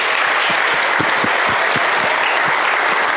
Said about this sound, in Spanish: Un aplauso otra vez